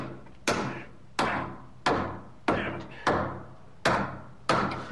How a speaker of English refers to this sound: Then we proceeded to pound about 1,000 nails into braces, where there was barely enough room to swing a hammer.